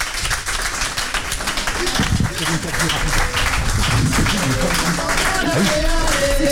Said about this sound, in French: Applaudissements.